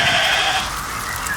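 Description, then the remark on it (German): A single loud sheep bleat with a wavering, nasal tone that fades after about half a second, followed by a softer trailing tail. No speech. “Da sind die Schafe in Schach. Reicht die Schafe weiter weg.”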